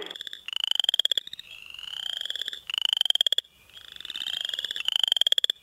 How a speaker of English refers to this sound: Another spring frog is the upland chorus frog. Also, early frogs are chorus frogs. They sound like your thumb scraping across a comb.